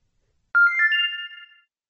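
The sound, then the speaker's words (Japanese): A mobile phone ringtone plays a short, bright electronic melody of a few rising tones, lasting about a second, loud, then stops abruptly with silence around it. “また寝ている間に電話がかかってきて睡眠を妨げられないように携帯電話の電源をオフにしておきましょう。”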